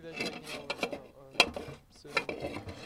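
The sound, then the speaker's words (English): Large industrial-sized metal soup pots clank and scrape together in an irregular run of sharp knocks and rattles, with one louder bang in the middle, at a forest camp in Slovenia where hot meals for refugees are cooked over portable gas stoves. Fairly quiet overall. “to set up this camp in the forest, where they cook up to 1,200 hot meals a day in big industrial-sized metal soup pots over portable gas stoves to supplement what Slovenian authorities are able to provide refugees.”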